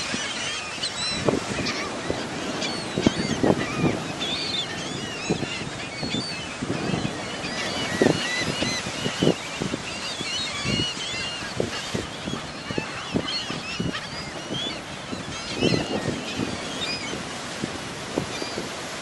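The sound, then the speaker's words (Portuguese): A flock of seagulls calls continuously, with loud overlapping squawks and cries, over a steady wash of surf in the background. No one speaks. “Levates un día cunha gaivota extraña, moi extraña, tanto que pon unha pata de pau disponte a escoitar esa súa historia.”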